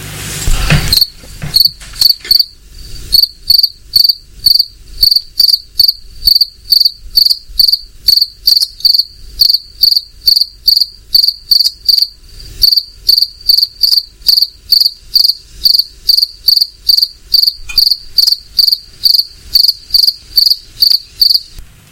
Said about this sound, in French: Alors, est-ce que vous avez trouvé ? Évidemment, il s'agit du grillon qu'on peut entendre de jour comme de nuit en ce moment par ses fortes chaleurs.